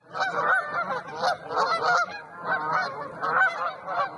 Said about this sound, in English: And we begin Main Street today by asking you if you've ever been startled by a flock of geese overhead.